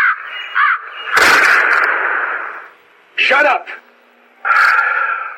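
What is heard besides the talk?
crows cawing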